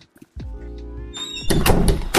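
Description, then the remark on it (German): The door of a recording area swings shut: a long, steady tonal creak of the hinges, then a louder rattling thud and clatter as it closes. No one speaks. “Also wenn ihr hier rausgeht von unserem Aufnahmebereich, könntet ihr die Tür dahin schließen, bitte?”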